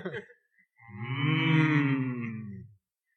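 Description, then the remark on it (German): A single drawn-out, low, throaty erotic hum from a human voice, swelling for about two seconds with a slightly wavering pitch, sounding almost like a cow's moo. A brief vocal noise comes before it. “Vielleicht solltest du für Willems mal erotisch brummen, damit es irgendwie, naja.”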